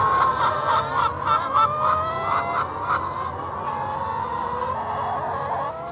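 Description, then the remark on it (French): A dense, continuous chorus of about 12,000 hens on a farm clucking and cackling together, with rapid repeated calls in the first few seconds layered over a steady murmur of the crowded flock, fairly loud. “on entend les crissements de pneus des voitures sur le circuit automobile de l'Urcy et le caquettement de ces 12 000 poules qui, aussi incroyable que cela puisse paraître, se sont comme mises au diapason de la modernité.”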